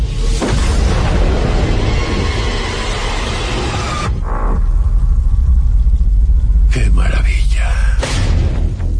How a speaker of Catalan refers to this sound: Utilizamos explosivos para hacer temblar la tierra y así mapear la superficie de la isla. Están tirando bombas.